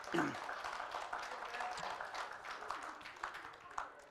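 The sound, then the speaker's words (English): An audience applauds performers with a steady, dense patter of many hands clapping for about four seconds, with no clear voices on top. “Anyway, you can give them a hand if you want to. They did a good job.”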